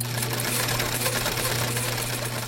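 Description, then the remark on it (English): A sewing machine runs steadily, its motor humming low beneath a dense, rapid mechanical clatter that holds an even loudness throughout, with no voices present. “We rely on the sewing machine for our stylish jeans and boots, to upholster our homes, tents, offices, and cars”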